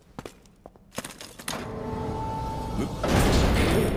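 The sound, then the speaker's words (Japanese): A few sharp knocks and thuds, then a long grinding, scraping rumble builds and swells as a heavy pull door drags open, growing louder toward the end. “引きの。 何よこの扉。”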